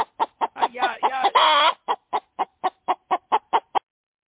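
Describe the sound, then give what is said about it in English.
A chicken named Henrietta clucks agitatedly in a rapid run of sharp, evenly spaced clucks, with a louder squawking burst near the start before settling into steady repeated clucking, clear. “it's time for Coop Talk with Henrietta.”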